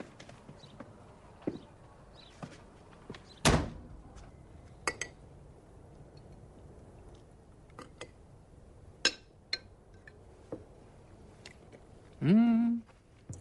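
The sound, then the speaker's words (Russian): A loud thud of a door being shut, surrounded by scattered small clicks and knocks, then a short creaking groan near the end. “Подруга, дверь-то закрывать будем?”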